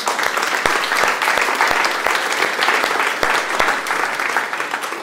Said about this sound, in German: Vielen, vielen Dank, dass ihr uns so in die Gegenwart Gottes hineingeführt habt. Das ist echt gigantisch, auch mit der musikalischen Qualität. Einfach ein Genuss. Macht richtig Spaß. Ich glaube, die haben sich mal einen Applaus verdient.